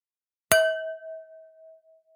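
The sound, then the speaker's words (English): A single clear strike on a wine glass, followed by a pure, sustained ring at E flat 5 with an overtone of G6 that slowly fades over about a second and a half, heard alone. “So we started with a wine glass.”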